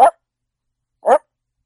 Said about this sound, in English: There's the dog.